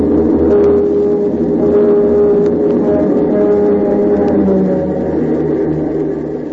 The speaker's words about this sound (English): It seems logical to begin with a sound effect familiar to all Gothamites. The first sound a visitor will recall, a streamliner plunging into the tunnel towards Grand Central.